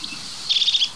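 bird, crested tit call

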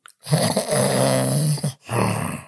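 human body sound, person snoring

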